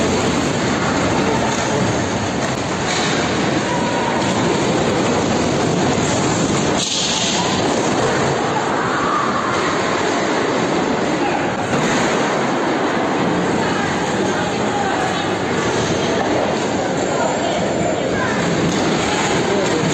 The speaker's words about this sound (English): Here's another video of the quake before I even show you guys the water rising.